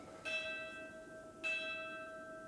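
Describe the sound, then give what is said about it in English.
Two bell strikes roughly a second apart, each a bright metallic clang with a long sustained ringing tone that overlaps into the next, moderately loud with no voices present. “Oh, those bells.”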